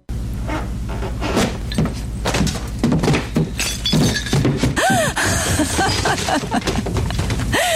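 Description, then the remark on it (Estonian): A loud crash as someone falls through a floor, with a long clatter of splintering, breaking debris and repeated heavy impacts tumbling over several seconds, and no voices. “Esimesele korrusele minnakse ikka trepist, mitte läbi põranda.”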